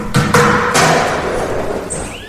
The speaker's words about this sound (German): Der Aufseher Salvador hatte den großen Riegel zurückgeschoben und riss die Tür auf.